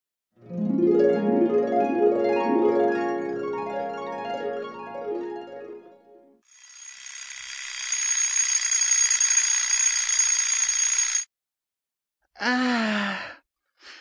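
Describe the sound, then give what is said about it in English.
An alarm clock rings loudly and steadily for about five seconds, preceded by a bright, stepping electronic melody and followed by a short squeaky warble. No one speaks. “The alarm clock is ringing.”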